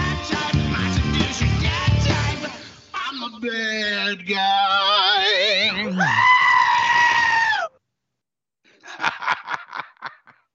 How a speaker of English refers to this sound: That's our screaming goat. That's a goat? Yeah, that's the screaming goat.